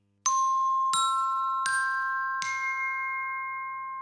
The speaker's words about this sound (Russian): Второй мелодический ударный инструмент — оркестровые колокольчики. Пластиночки их сделаны не из дерева, как у ксилофона, а из металла. Послушай, какой звук у колокольчиков — короткий или длинный?